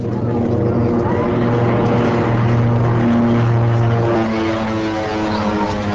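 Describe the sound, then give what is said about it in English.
A twin-propeller passenger plane taking off from a dirt and gravel runway in Northern Alliance territory, Afghanistan, as children chase it, its engines droning loudly and steadily with a strong low hum and layered tones, sustained throughout. “20 minutes later, children chased the plane as it took off.”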